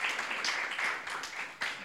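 applause

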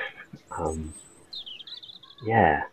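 blackbird singing

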